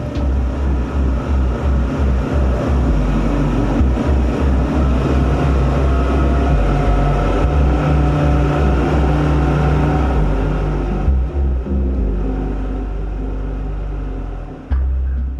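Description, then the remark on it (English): Loud, steady droning of outboard motors running hard as a boat pulls a grounded deep-keeled sailboat off a beach by a line from its masthead, a deep rumbling engine roar with rhythmic low pulsing that continues without speech, easing slightly near the end before a brief surge. “Yeah, I was very happy the way the outboards pulled the boat off the beach.”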